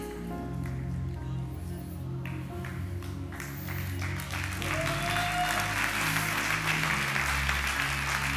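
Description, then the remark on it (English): An audience claps steadily, a dense wash of many hands that swells louder partway through and carries on without pause, with no voices heard over it. “Those who are clapping, you are that businessman.”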